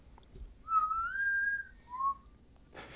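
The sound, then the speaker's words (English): A person whistles a short movie theme tune: a long rising held note, a brief pause, then a shorter lower note, clear, ending with a burst of noise. “Can anybody whistle reception. The theme song for Hunger Games?”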